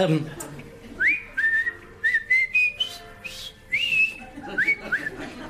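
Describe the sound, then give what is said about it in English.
A person whistles a jaunty military march tune, with clear sustained notes and quick upward slides in a bouncy rhythm, a little breathy noise underneath. “I whistled that in the prison camp.”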